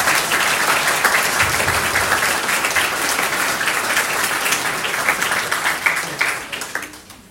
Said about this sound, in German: Darum fand ich die Idee, nochmal zu klatschen, richtig gut. Das machen wir jetzt.